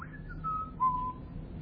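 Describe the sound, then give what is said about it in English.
A person whistles a short phrase of a tune, a few clear notes sliding downward, fairly soft, with no talking. “You know, skipping along, you know, the stream hand in hand, whistling.”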